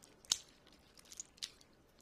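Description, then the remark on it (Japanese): Three quiet, crisp snips of scissors cutting through sticky slime, one sharper snip first and two softer ones a second later, with no talking. “いい音してる？マジ？ハサミで切る？ハサミ？”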